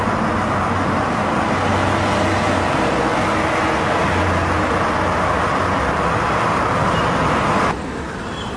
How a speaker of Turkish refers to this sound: bir otobüs yaklaşıyor. Bayan telaşla kalkıp gidiyor. Bayanın bindiği otobüs uzaklaşıyor.